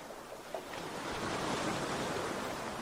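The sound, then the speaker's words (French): Ocean waves wash in a steady, broad roar of surf, swelling slightly and holding at a moderate level with no voices over it. “Voyez les rayons de soleil qui scintillent sur les vagues.”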